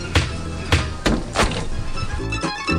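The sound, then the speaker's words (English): A basketball bounces four times on a hard floor with sharp, uneven thumps, followed by a brief softer rush like a ball swishing through the net. “So here you'll hear some dribbling and then the swoosh of the score.”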